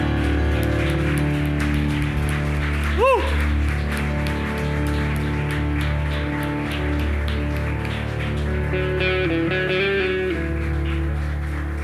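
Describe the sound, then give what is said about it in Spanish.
A church audience applauds in glory and praise to Jesus during worship, a steady, dense wash of clapping that lasts throughout, layered over sustained instrumental music, with a brief rising whoop or whistle cutting through early on. “Puedes darle ahí un aplauso de gloria y alabanza a Jesús.”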